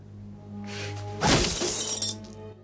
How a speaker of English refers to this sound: Renard smashes his fist through a chest. Concerned, Elektra sits up. Slowly, he withdraws his fist from the broken chest.